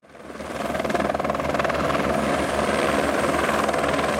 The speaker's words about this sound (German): Fast schon im Minutentakt fliegt ein Helikopter grosse Solarplatten und mehrere Meter hohe Eisenkonstruktionen durch die Luft.